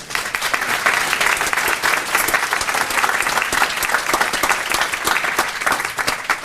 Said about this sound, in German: Und auch da schon mal danke an die Leute, die sich das hier Zeit genommen haben und auch Zeit dafür opfern, Vorträge und Workshops anzubieten. Ganz großes Applaus schon mal dafür, hätte ich jetzt gesagt.